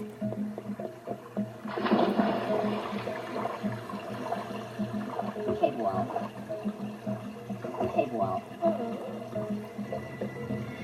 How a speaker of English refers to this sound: Especially that one jump at the beginning, you know, where you had to jump over, you know, get up to the gap, just, you know, trying to hear your footsteps with the waterfall.